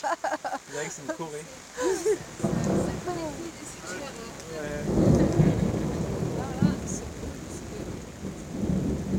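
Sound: thunder rumbling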